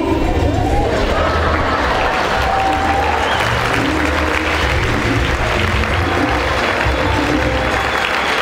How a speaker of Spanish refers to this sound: Entonces, vamos a recibir con un fuerte aplauso al diamante ejecutivo de la compañía,